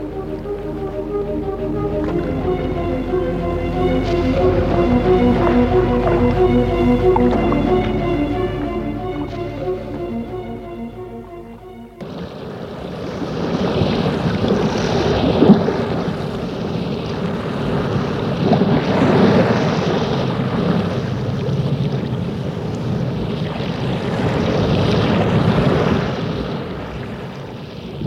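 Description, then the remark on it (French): A short musical passage gives way to a small pleasure boat motoring far out at sea under a blue sky on a fine sea, around 10 o'clock, its engine droning steadily under a broad wash of wind and water for the remaining stretch, fairly loud. “Le ciel est bleu, la mer est belle. Une fois que le bateau est bien au large et seul”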